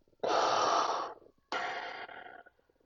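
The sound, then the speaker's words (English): A voice imitates heavy mechanical respirator breathing: one long, loud, rasping inhale followed by a hissing exhale, with no talking. “Darth Vader just stood there, just breathing.”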